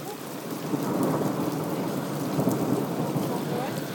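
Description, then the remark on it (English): Heavy rain pours down steadily with a dense hiss, while low thunder rumbles continuously underneath, fairly loud throughout with no voices. “That's the worst rain we've had in a long time.”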